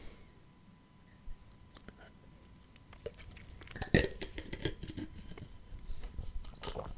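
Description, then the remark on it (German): Someone drinks a carbonated drink from a glass: sharp clicks and a couple of bright glassy clinks, with gulping, swallowing and faint fizzing mouth sounds growing busier toward the end. No talking. “Oh, ey, auf Kohlensäure komme ich so nicht klar.”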